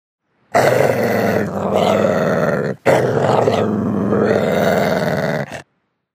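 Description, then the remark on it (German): A dog growls low and rough in two sustained bursts, separated by a brief pause, loud with no other sounds around it. “Manchmal knurren Hunde auch beim Spielen.”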